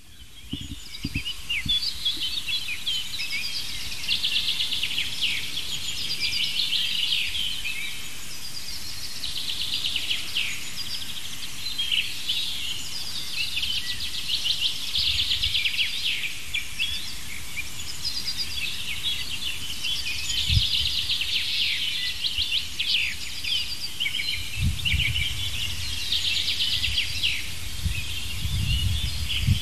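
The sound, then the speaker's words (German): A dense dawn chorus of many birds singing at once as the sun rises, a steady high-pitched wash of overlapping chirps, trills and whistles, with occasional low thumps and rumbles beneath and no talking. “Wir lauschen mal in die grüne Front.”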